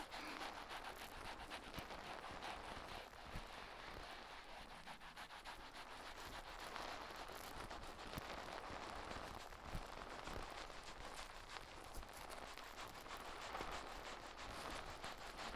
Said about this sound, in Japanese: パチパチって小さい泡が弾ける音。